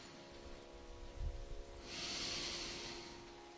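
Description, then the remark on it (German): An airy breath in through the nose during a yoga exercise, with a soft low bump and then one long, steady hissing exhale through the nose that gradually fades, with no talking. “Beobachtet ihn, wie er reinkommt und rauskommt. Wir atmen nur durch die Nase.”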